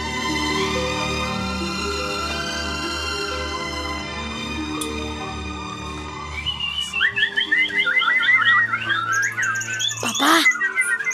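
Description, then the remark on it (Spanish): A steady tonal musical backdrop plays at first, then birds in the trees on an afternoon join in with bright, rapid chirps and warbling trills that grow busier and louder over the last few seconds. “Y el concierto de los pájaros me arrullará.”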